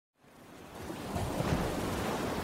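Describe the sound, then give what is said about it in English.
A steady roar of surf fades in and builds to a full wash of breaking waves at a beach in Tulum, rumbling and hissing without pause. No one speaks. “this is the I Am Rapoport podcast coming live from the beaches of Tulum. I'm actually in the ocean.”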